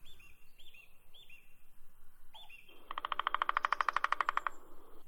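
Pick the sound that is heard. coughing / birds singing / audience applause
birds singing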